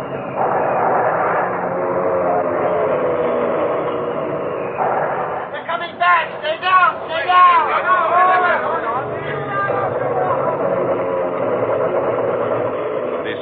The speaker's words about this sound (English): Plane's coming! We scattered like chaff before the wind, but the planes dived upon us.